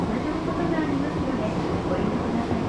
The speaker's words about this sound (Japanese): 地下鉄にふらりと乗ってみました。